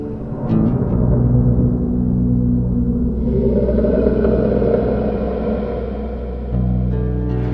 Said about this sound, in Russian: Пока Хирани Кашипу озирался, пытаясь понять, откуда исходит зловещий гром, Господь в образе удивительного существа, то ли льва, то ли человека, вышел из колонны.